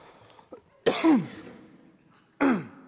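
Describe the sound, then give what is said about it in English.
A person, choking on something swallowed, clears their throat and coughs: a harsh, raspy burst followed by a second sharper cough a moment later, both fairly loud with no talking. “Swallowing on something right now.”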